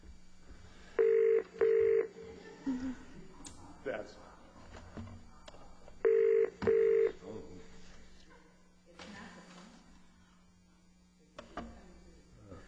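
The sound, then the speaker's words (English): During an incoming call from the Corps of Engineers, two double-burst electronic telephone ring tones, spaced several seconds apart, come through a phone line over a steady low hum with faint background murmur. “I think it's come through the phone because I just.”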